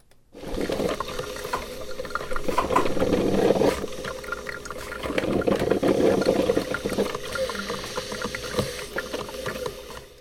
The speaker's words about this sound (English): So you can hear that sort of gurgly sound of the water kind of lapping up against the rocks on the shoreline. There are a few little broken pilings there, but basically that's fairly calm water.